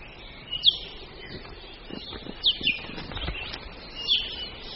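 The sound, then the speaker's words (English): A few sharp, high-pitched calls ring out at intervals from an i'iwi, a long-billed honeycreeper, mixed with soft fluttering wingbeats, set against a quiet natural background in Hawaii. “It's an i'iwi, a long-billed honeycreeper only found in Hawaii.”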